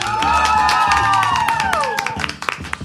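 An audience applauds, a dense wash of clapping with sharp hand claps standing out, alongside cheering voices and a few whoops that fade as the clapping thins out toward the end.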